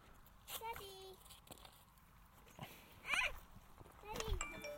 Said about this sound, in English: You hear a sheep There's sheep on the other side of the road on the hill. And there appear to be more. I say there appear to be more.